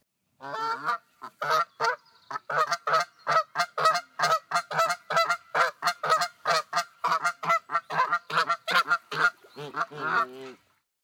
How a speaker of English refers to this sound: Let's go to the goose.